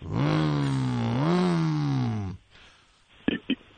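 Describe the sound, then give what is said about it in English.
A voice imitates a motorcycle engine roar, a loud buzzing drone of about two seconds that revs up in pitch twice before cutting off, followed by two quick sharp clicks. “So you hear the motorcycle.”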